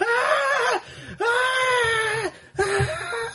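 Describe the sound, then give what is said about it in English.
A loud human scream, the scream of the screaming upside-down mountain, rises in three drawn-out, wailing bursts separated by brief gasping pauses, each held steady and strained like an anguished howl. “As you walk, as Big One hops through the, you know, ephemeral non-space of the realm, you just hear the crescendoing scream of the screaming upside-down mountain.”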